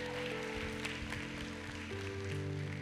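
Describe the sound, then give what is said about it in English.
A church audience claps their hands for the Lord at a morning service in a steady, dense wash of applause, mixed with sustained organ or keyboard chords underneath; the overall level is fairly soft. “Would you give the Lord some hand clap?”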